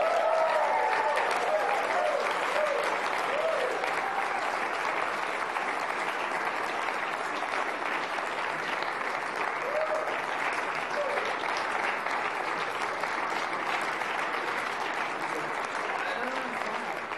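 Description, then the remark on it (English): An audience claps steadily and continuously for about seventeen seconds as people being recognized for their work in a drama ministry walk up: a dense, even wash of many hands that neither builds nor fades much before trailing off slightly at the end. “They had to milk it in, milk in that applause.”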